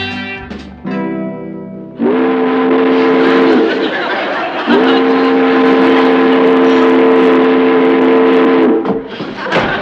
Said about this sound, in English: I heard a steamboat whistle. That is probably the Robert E. Lee just coming around the bend.